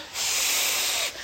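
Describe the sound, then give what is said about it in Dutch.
Someone forcefully blows into a balloon: a hard, breathy blast of air rushes out for about a second, a steady broad hiss, fairly loud, with no talking. “Ballonnetje, ballonnetje, ik blaas je kapot.”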